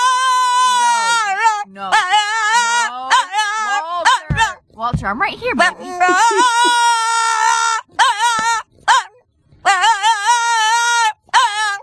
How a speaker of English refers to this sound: Might be a Boston Terrier. Could be in the mix. He's a great singing dog.